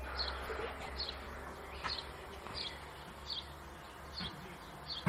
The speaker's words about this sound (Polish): Może mi ktoś powiedzieć i mnie oświecić, jakie to ptaki? Bo nie za bardzo się na tym znam, a jestem ogromnie ciekawa.